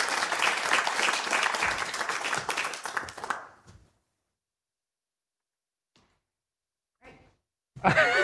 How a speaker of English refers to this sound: a round of applause as she comes up to the front.